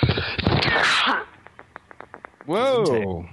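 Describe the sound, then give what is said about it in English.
A loud sneeze, caused by pollen, bursts out, followed by a run of faint, evenly spaced taps and then a short, drawn-out vocal exclamation. “The cough button also doubles as a sneeze button. Curse you, pollen.”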